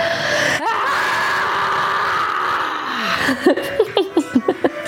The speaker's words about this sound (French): Ok, donc je compte jusqu'à 3, on inspire et on crie comme on veut. 1, 2, 3.